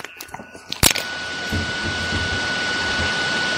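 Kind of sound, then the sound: household object, hair dryer running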